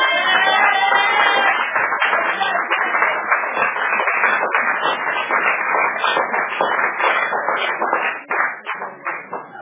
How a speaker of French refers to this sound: Si c'est pour m'encourager, vous vous applaudissez timidement comme ça, vraiment.